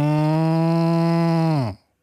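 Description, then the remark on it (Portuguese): A person imitates a cow with one long, steady, loud low moo held for nearly two seconds, its pitch dropping slightly as it trails off abruptly into silence. “E tu imitas muito bem uma vaca, não é?”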